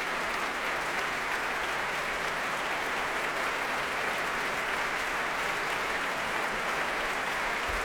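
A concert audience applauds the orchestra after a symphony performance, a dense, even wash of many hands clapping that holds at the same level for the full length with no voices.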